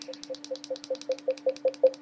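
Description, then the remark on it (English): A rapid, evenly spaced series of short electronic beeps from a device as the up part of its round circle control is pressed to raise the volume, about five per second, each with a faint click, growing steadily louder over two seconds above a low steady hum. No one speaks. “I can press the up part of that round circle and you can hear it doing the tones as it increases in volume.”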